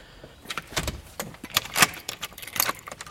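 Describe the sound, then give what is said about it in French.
Captive-born zebra finches call in an aviary in a laboratory animal facility: a busy scatter of short, bright, nasal chirps overlapping at irregular intervals, some louder than others, with no voices. “Là, on entend déjà les oiseaux. Là, ce que vous entendez ici, ce sont des diamants mandarins.”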